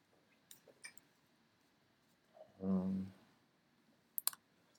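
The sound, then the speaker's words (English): A few quiet, sharp mouse clicks selecting objects: a pair early on and a quick double click near the end, with a brief low hum from a voice in between and no spoken words. “So it's just clicking on it.”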